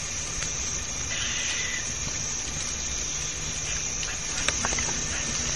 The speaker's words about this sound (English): This is a big hickory grove in the Ozarks, and this is awesome. Go ahead and play some of it so they can hear the hickory nut cuttings of a squirrel.